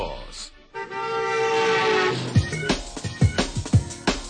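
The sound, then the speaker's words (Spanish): A loud, sustained horn blast, the sound for the traffic and weather segment on Radio con Vos, holds a steady, brassy tone for about a second and a half, then cuts off as a voice starts talking in quick, punchy bursts. “Necesitaba como una bocina y un trueno”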